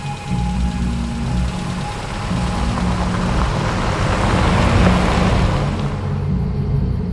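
A car approaches along a dirt road in a forest with a steady low engine rumble and road noise, stops for a man who signals it and gets in, then pulls away. The sound swells slightly and eases off near the end. No one speaks.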